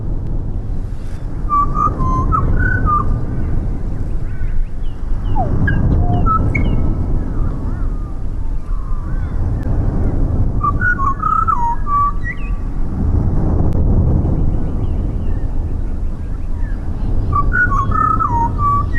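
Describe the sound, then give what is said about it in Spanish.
A small bird whistles in three short bursts of bright, quick, warbling notes, spaced several seconds apart over a steady low rushing background. No one speaks. “De pronto, un pajarito comienza a volar en la distancia.”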